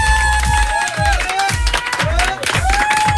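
A loud burst of studio audience applause and cheering for a guest musician on the Fun Radio morning show, dense clapping with high whistles and shouts, carried over a steady, thumping low beat that pulses about twice a second.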